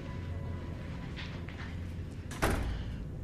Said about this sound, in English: the security door opens to reveal a sour-looking Driscoll